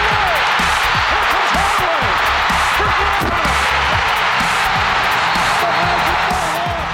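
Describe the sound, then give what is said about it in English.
A basketball arena crowd roars loudly and steadily during game one between Chicago and the Magic near the end of the fourth quarter, as Jordan has the ball knocked away by Nick Anderson; a dense wash of noise with scattered shouts and rising whoops poking through from start to finish. “It's a little tough to hear over the crowd, but Jordan has the ball knocked away by Magic guard Nick Anderson, allowing his team to score and win.”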